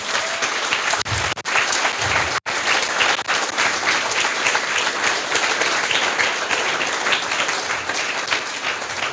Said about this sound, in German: die einen ganz herzlichen Applaus verdient hat.